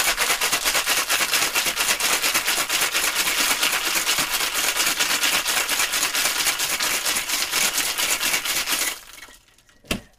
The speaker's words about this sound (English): Here goes the ice. I ice up our shaker. Fresh shaker this time. Hammers it on.